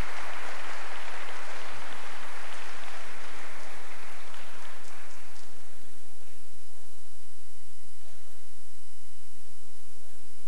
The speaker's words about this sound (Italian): Bene, un applauso.